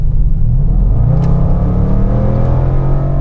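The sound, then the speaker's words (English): A four-wheel-drive car's engine revs steadily and loudly as it overtakes a Corolla at about 84 km/h, its low rumble rising in pitch as it accelerates, with a constant whir of road noise underneath and no voices. “And excuse me, I'm going to overtake a Corolla now.”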